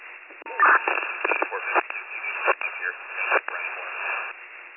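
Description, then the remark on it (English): A garbled, band-limited radio transmission breaks up into crackling static, with bursts of hiss and clipped noise chopping through a muffled voice for several seconds. “Your radio is not making it, it's all static.”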